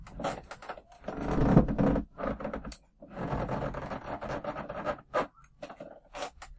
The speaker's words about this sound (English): You push open the door and it opens with a creak.